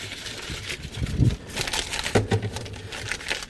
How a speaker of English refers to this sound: See how fast I can make a paper airplane?